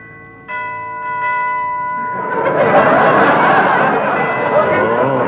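A doorbell at a house chimes twice, clear, its ringing tones lingering briefly before a loud swell of crowd murmur and laughter rises and covers the rest.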